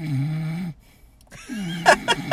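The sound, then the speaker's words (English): A voice mimics snoring: a long, low, buzzing nasal breath, a short pause, then a second drawn-out snore that ends in a few raspy puffs. “No one else has ever told me I snore.”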